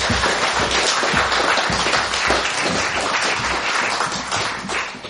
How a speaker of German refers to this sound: Ihr dürft mit einem Applaus wieder applaudieren.